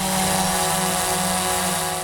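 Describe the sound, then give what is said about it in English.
A small drone buzzes steadily and loudly, its whining propeller hum holding a constant pitch with a rough whirring texture throughout, with no voices. “Even the small ones that hobbyists buy can be pretty loud.”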